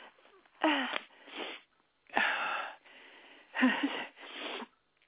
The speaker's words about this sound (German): Wartet einen Moment, die Botschafterin muss vielleicht niesen. Ich werde ihr mal die Nase putzen.